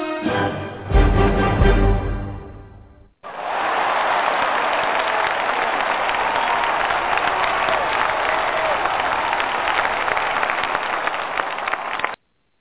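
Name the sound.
crowd applause sound effect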